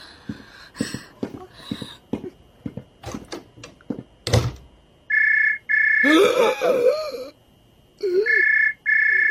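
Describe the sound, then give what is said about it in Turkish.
A telephone rings in repeated steady electronic bursts, loud and even-pitched, after several seconds of sharp knocks and clatter with no one speaking. “Zeng açtılar.”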